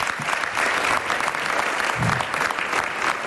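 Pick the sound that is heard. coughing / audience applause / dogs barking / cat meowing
audience applause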